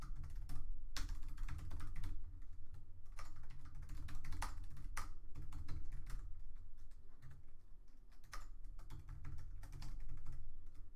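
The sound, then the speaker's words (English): Rapid, uneven clatter of keys on a computer keyboard as someone types code, with sharp individual clicks over a low steady hum and no voices. “I was typing away code, and I didn't have that on screen.”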